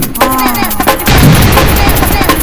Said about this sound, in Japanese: そりゃ爆発。